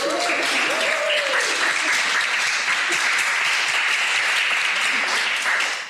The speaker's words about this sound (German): Also ich möchte euch als erstes schon mal herzlich danken. Ein Applaus für euch, dass wir das so gut gemanagt haben.